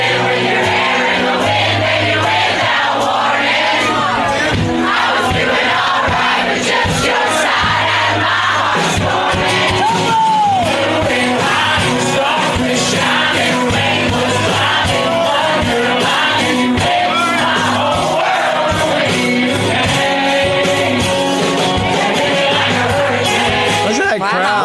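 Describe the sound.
At a small club show in Nashville, a large crowd sings a song along together over steady loud music, voices blending into a continuous, dense roar with occasional shouts and whoops rising out of it.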